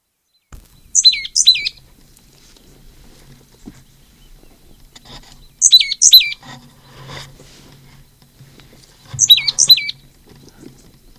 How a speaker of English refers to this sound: Second flew down with the slightly melodic notes. I believe the one that gave that call is the one that flew down second.